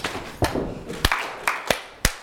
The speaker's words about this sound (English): Okay. Clap, tap, tap, clap, slap, slap, stamp, clap, clap. And one. That's it. Now you got it.